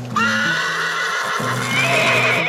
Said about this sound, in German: Schaut von dem Schimmel stolz hernieder. Und auch der Schimmel wiehert wieder.